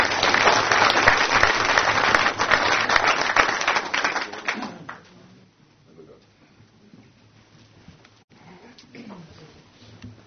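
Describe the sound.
People at a council meeting clap steadily for about five seconds as flowers are presented, then the applause dies away into quiet shuffling and faint voices.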